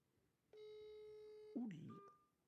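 A phone accidentally dialing from inside a pocket, on speaker: a steady electronic tone holds for about a second, then a louder burst of mixed sound and a short higher beep before it cuts off.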